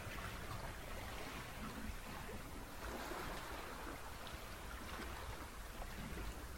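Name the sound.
ocean waves rushing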